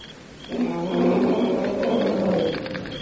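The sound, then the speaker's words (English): A Somaliland lion gives a deep, sustained roar lasting about two seconds, loud, rising in and then tapering off with no voices over it. “The Somaliland lion, the bravest.”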